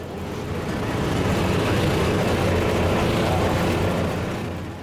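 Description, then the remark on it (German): A vintage Saurer A bus, a high-built type with a large gap between chassis and body, rumbles steadily as it drives along, a loud, continuous low mechanical drone with rattling texture, swelling slightly in the middle and easing off toward the end. “6 Jahre nach dem Ende des Ersten Weltkriegs ist zwischen Bümplitz und Ostermundigen die erste Autobuslinie von der Schweiz eröffnet worden. Und so hat es unterwegs gedehnt.”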